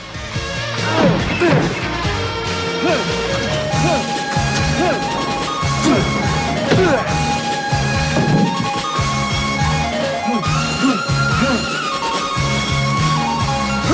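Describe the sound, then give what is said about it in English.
Drago repeatedly slams his fist into a punch-measuring compressor, about eight heavy thuds at a steady, slightly uneven pace, each with a sharp crack over sustained background music, while its digital counter shows higher figures each time. “Drago repeatedly slams his fist into the punch measuring compressor, the digital counter showing higher figures each time.”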